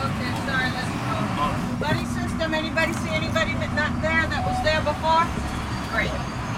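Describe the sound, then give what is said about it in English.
Steady low engine rumble fills the interior of a large passenger bus in Central Florida while many voices chatter and overlap throughout, a lively crowd of roughly 30 middle and high school students on board on a Saturday in early March. “On a Saturday in early March, roughly 30 middle and high school students loaded onto a large passenger bus in Central Florida.”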